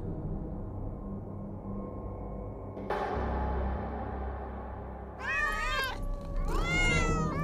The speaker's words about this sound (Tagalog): Pusa! Ay, mga lecheng pusa yan!